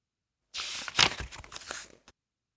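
A continuous rustle of a folded paper strip being cut to cut out a drawn tree shape, with crisp crinkling and a few sharper snips over about a second and a half, then a brief final crackle.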